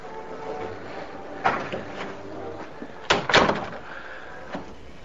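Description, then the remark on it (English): A door is swung shut: a first bump, then a louder thud with a brief rattle as it latches, over a low steady background hum with no talking. “Shut the door.”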